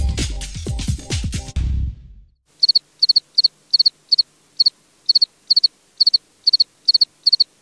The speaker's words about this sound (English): You're listening to the sound of a field cricket. It is a species of insect that is so rare in Britain that today it's only found in 3 farm fields in southern England.